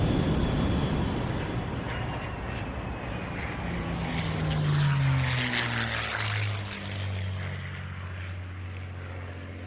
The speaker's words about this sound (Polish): Musimy wylądować. Szykujcie samolot do lądowania.